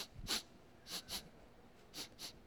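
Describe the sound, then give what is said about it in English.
A person imitates sniffing for smoke with five quick nasal sniffs, mostly in pairs, each short and breathy, with brief quiet gaps between them and no talking. “Because they're sniffing.”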